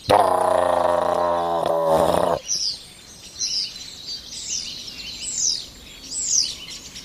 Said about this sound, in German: Und jetzt geht's gerade richtig ab. Der Star kommt in Fahrt über uns.